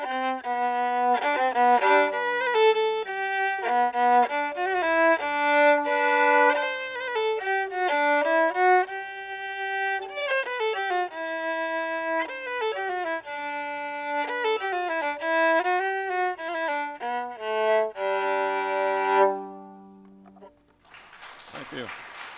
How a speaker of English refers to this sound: Yes, that's a song of the sea. Nobody dies, the ship doesn't go down, everything turned out wonderful.